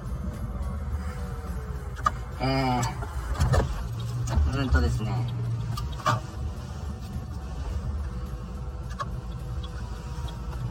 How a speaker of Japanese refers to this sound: おっとっと車来た。